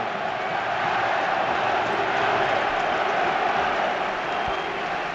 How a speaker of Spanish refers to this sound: Y devuelve el cariño el Cholo Simeone, aplaudiendo a la afición del Atlético de Madrid tras estos cánticos.